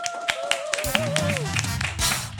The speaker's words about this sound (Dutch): Hier nog steeds vanaf de zomerschool in Amsterdam-Nieuw-West. En ik zit hier natuurlijk gelukkig nog steeds met de leerlingen van de zomerschool. Geef jezelf en elkaar een heel groot applaus.